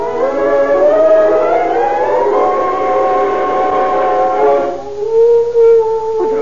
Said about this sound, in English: The dog howling. Howling in his departed spirit.